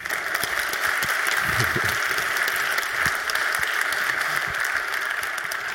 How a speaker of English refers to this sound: Give him a warm applause for his talk.